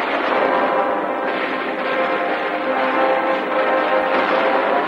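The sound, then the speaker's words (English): A dense, steady barrage of exploding anti-aircraft rounds during an air battle over a naval fleet, the blasts blurring into one loud, continuous crackling roar with no let-up and no voices. “His white parachute descends through a raining barrage of fiery wreckage and exploding anti-aircraft rounds.”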